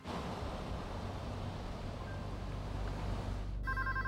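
telephone ringing

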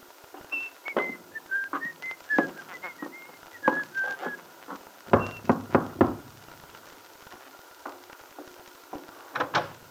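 cheerful whistling

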